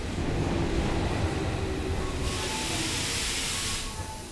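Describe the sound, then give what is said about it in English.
A subway train rumbles steadily through Kasumigaseki station on the Tokyo subway, Japan, with faint metallic squeals and a loud hiss of air rising midway before easing off. Continuous, with no voices. “It was a Tuesday morning, just after 8 a.m., peak of the rush hour on the Tokyo subway, when station agents here at the Kasumigaseki station got a call from their central office.”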